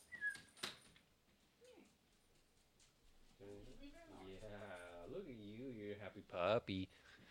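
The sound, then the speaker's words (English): A happy female puppy whines and whimpers in wavering, drawn-out cries, with a few sharp knocks and rustles of movement around it. “Happy puppy.”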